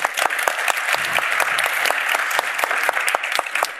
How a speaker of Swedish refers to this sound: Så att nu vill vi först ta så här, hur låter 100% applådera?